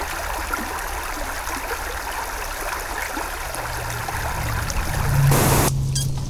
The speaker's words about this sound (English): Pink noise from the brook pollutes the air and water and fills the woods. The brook fills the woods with its pink noise.